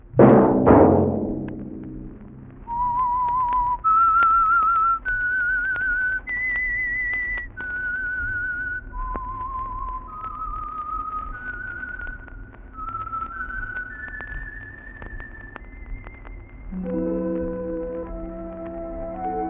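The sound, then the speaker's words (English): A loud opening chord gives way to a clear, solo whistled melody of held notes stepping up and down in phrases over soft low music, before a full orchestral chord swells in. “Let that whistle be your signal for the Signal Oil program, The Whistler, each Monday at this same time”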